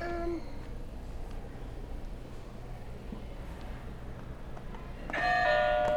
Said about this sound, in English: All right, we can move on to the next one. Do you want to hit another buzzer?